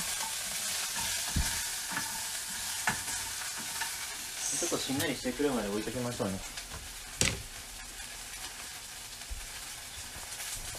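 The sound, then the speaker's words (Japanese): Steady hiss of paprika (bell pepper) frying in a pan, with a few sharp utensil scrapes and clacks as it is stirred; a person speaks briefly midway over the constant sizzle. “お、これは ASMR か。”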